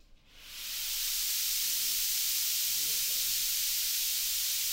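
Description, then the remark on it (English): Fog nozzles spraying a saltwater solution to make fog at the Sandia National Labs Fog Facility start up after a brief quiet moment, swelling into a loud, steady, airy hiss that fills the space and holds constant without pause. “Here in the fog facility, we make fog by spraying a saltwater solution through spraying nozzles.”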